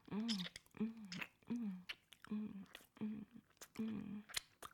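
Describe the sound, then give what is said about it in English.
Wet sucking and slurping mouth sounds of oral sex repeat in a steady rhythm, about six strokes, each blended with a low voiced hum, quiet with small squishy clicks between. “You like hearing me sucking, slurping, drooling, moaning?”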